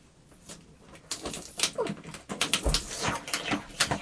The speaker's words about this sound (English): Mum, the dog was licking it. Is your doggy licking the box?